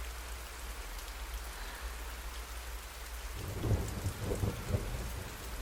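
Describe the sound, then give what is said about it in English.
Steady storm rain hisses outside a patio door, and partway through a deep, rumbling roll of thunder swells up from the low end, loud. No one speaks. “I could just stand at your patio door for hours just listening to the storm.”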